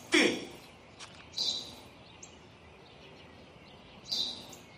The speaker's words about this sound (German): Das habe ich dir doch gerade gesagt, Vater. Es ist ein Spatz. Was ist das? Ein Spatz, Vater, ein Spatz. Spatz.